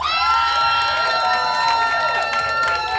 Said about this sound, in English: Anyway, before we introduce this lovely band on stage, big round of applause for the … that just played.